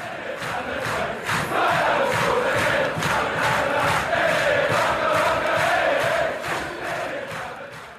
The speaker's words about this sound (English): with the intention of making fans sing and get the atmosphere going louder